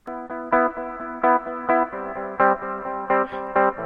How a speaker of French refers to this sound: c'est l'accord dorien, l'accord du mode dorien qui donne un côté plus brillant en fait à la tonalité mineure. La tonalité mineure toute seule est très très dark. Là ça va un petit peu rajouter de la lumière, écoutez bien.